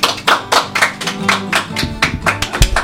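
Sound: applause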